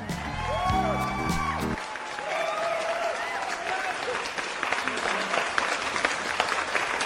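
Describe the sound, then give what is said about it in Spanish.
After a short tonal, musical-sounding opening, a large crowd breaks into loud, sustained applause, dense clapping with scattered shouts and cheers mixed in, continuing steadily to the end. “¿Vio? Aplausos, gritos, todo.”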